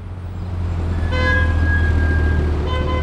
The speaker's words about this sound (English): Traffic creeps along 60th Street in Manhattan. That's where the new toll zone would begin. The average speed here, 4.7 miles per hour. That's just a bit faster than a brisk Manhattan walk. Buses don't move, cabs don't move.